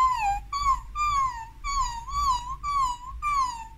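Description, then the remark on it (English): A voice imitates a whining puppy: a quick run of about seven high, nasal whimpers, each sliding slightly down in pitch, fairly loud with a low background hum. “Imagine you're a really cocky puppy.”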